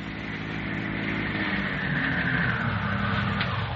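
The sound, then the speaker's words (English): A car engine starts at a ranch and runs at a steady idle, a low continuous rumble with a faint whine above it that holds at an even level throughout, with no voices. “A tense couple of hours pass, and then they hear an automobile start from the ranch.”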